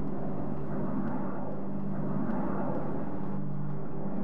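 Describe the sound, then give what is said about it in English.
A low-flying airplane roars overhead above a courtyard at the University of Washington, a loud, steady rumble with a droning engine hum that holds for the whole stretch without fading. No voices. “We sat there on a bench in between the buildings and looked at the leafless cherry trees, and we watched as the planes flew low over top of us.”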